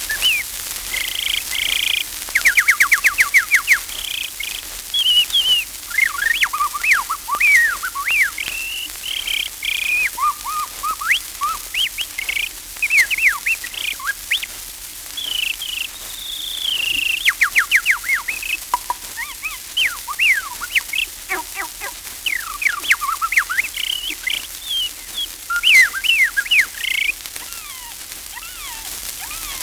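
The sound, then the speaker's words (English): A gray catbird sings a long, rambling string of varied phrases: squeaky whistles, quick chirps and harsh, scratchy notes tumbling one after another, steady with no voices. “Most people who listen to the singing of songbird songs fail to notice that all songbirds sing in the ecstatic mood and not in the lyrics. A good example is that of the catbird.”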